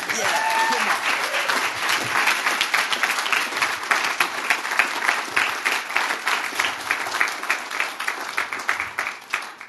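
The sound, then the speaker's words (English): A crowd breaks into sustained applause, many hands clapping in a dense, steady wash that grows into a more rhythmic, pulsing clap toward the end, with a brief voice early on. “They're going to give you a massive round of applause now.”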